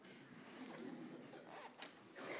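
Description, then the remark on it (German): A crinkly gift bag rustling steadily for a couple of seconds, moderately loud, with a few sharper crackles as it is handled and handed over as a present during a church service. “Die obligatorische Tüte.”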